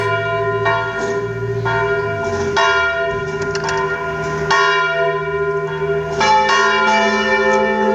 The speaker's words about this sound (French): On va écouter un troisième son, on va écouter une cloche dissonante qui est la cloche de Plenévé-Porzay. Plenévé-Porzay.